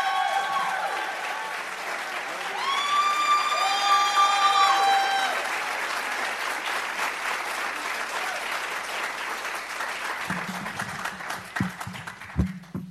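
A large audience applauds steadily for several seconds, dense clapping that swells early with a few whistles and cheers, then thins out toward the end.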